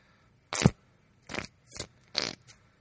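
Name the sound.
fart sound effect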